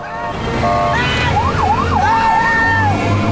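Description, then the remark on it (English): A presidential motorcade speeds out of a studio lot with police sirens wailing and whooping in quick rising-and-falling sweeps over the low rumble of engines, loud throughout. “The presidential cavalcade speeds out of the studio lot.”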